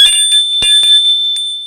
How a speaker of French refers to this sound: Il sonne à la porte.